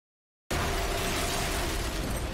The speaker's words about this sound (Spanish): Una serie de explosiones desgarra la ciudad de Nueva York.